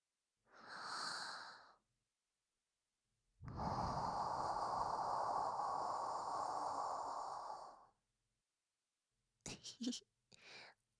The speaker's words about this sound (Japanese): 私のあったかい生吐息感じてる。ギャルに息を吹きかけられるってめったに経験できないし、耳に刻んどくのをおすすめしとくね。